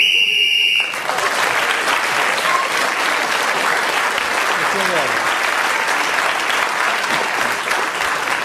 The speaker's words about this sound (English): Well, Clement Freud, speaking as the whistle went, got the extra point that time